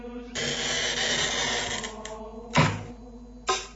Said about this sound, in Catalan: La rolina o el tallavidres permet marcar sobre el vidre exactament per on haurà de passar el tall. No es tracta de tallar a ull.